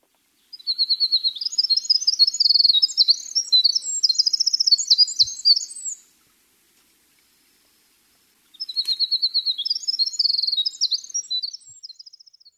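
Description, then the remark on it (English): Two long bursts of winter wren calls and song, rapid high-pitched tumbling trills and chips, clear, separated by a few seconds of silence with no talking. The winter wren is an uncommon winter migrant in Ohio. “The winter wren calls and songs.”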